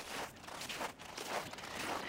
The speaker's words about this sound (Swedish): Ja, ni hör säkert hur det knastrar lite om fötterna när jag går. Jag är på väg in i parken.